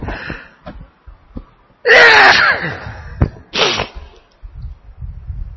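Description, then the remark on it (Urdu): A single loud, explosive sneeze bursts out, followed a moment later by a shorter breathy exhale, with quiet rustling and low murmurs around it. “اور چھینک سے بھی کچھ نہیں بگڑے گا.”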